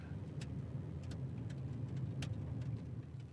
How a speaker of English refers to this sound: In fact, that car there would be Leanne going home, I would think, from the school bus.